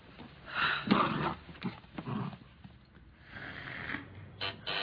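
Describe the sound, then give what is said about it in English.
A dog named Henry makes breathy noises, snuffling, snorting and low grumbling, in several uneven bursts with short pauses between them, and no voices. “He's a dog, not an oracle.”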